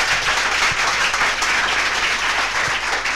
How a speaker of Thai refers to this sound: ปรบมือให้ตัวท่านเพราะท่านคือหนึ่งในนั้น